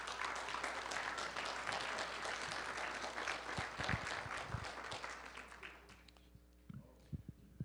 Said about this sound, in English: Would you give the Lord another hand clap of praise?